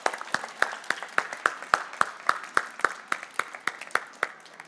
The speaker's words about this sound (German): Applaus, Applaus, Applaus, Applaus, Applaus, Applaus.